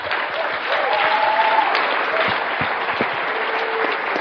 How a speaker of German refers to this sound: Bitte einen festen Applaus